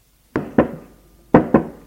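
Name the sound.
knocking on a door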